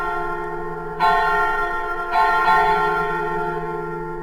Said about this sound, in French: Effectivement, ouais, en plus, oui, les cloches de Notre-Dame, effectivement, en sachant qu'il recrée ça à partir du texte, hein, il ne va pas pointer ça.